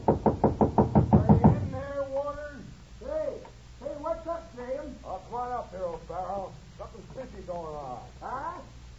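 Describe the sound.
A rapid, loud burst of about a dozen knocks on a door by a neighbor from next door, followed by a voice talking over a low steady hum.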